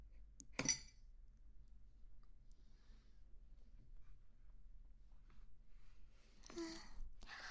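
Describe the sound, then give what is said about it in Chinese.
Glasses clink together once in a toast, a short, bright chime near the start, followed by quiet stretches and some soft rustling and shuffling noises toward the end. “干杯！”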